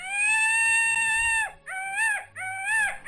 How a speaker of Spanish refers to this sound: Otra, pavo real alegre.